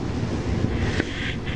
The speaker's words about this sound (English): Oh, what is that? That's water. This is called a, what are these called? Well, if it was round, we would call it a snow globe or a water globe. But it's a square, so it's not a globe.